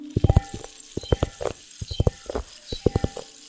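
A small rain stick is tilted, giving quick clusters of sharp, bright clicks and rattles that come in several short bursts with brief pauses, fairly soft and without any voice.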